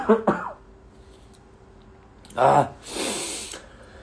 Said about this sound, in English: Well, yesterday I left work early because I was like coughing all over the place, looking nasty. I'm trying not to cough in front of you guys because it's so gross.